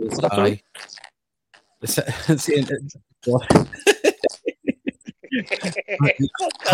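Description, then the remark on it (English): Quick, evenly spaced thumps of a man running up stairs, mixed with speech-like sounds in the background. “Sounds like he's running up the stairs.”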